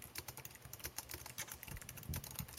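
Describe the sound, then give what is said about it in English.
Rapid, uneven typing on a computer keyboard with many sharp little clicks in quick bursts, fairly quiet, with no voices over it. “Are you typing? What are you doing? What are you typing?”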